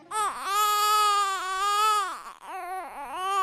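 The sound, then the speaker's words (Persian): A child wails loudly and continuously, the cry rising and falling in long strained bursts with a brief catch of breath before resuming, unaccompanied by talk; children crying from thirst in the tents at Karbala. “صدای گریه کودکان است، صدای تشنگی است، صدای مادری که لالایی نمی‌خواند بلکه ناله می‌زند.”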